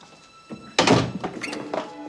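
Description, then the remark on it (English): An oval fortified window in a door is slammed shut with one loud, solid thunk, preceded by a faint scrape and followed by a few softer clicks and rattles as it settles. “After peering out after Reverend Mother, Dolores closes an oval fortified window in the door.”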